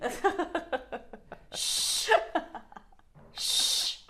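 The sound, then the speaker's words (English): A person sneezes: a voiced, gasping build-up followed by a sharp, hissing burst, then another breathy sneeze shortly after, with no talking. “Ooh. Bless you.”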